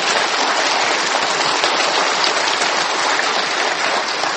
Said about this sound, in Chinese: 我们再一次用掌声来感谢他，让我们感谢主。